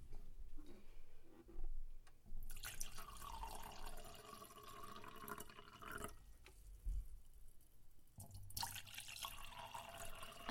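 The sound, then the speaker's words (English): Wine is poured into a glass in two bursts of bright, splashing liquid, a steady trickling gurgle broken by a brief pause, with no talking. “You know how to pour.”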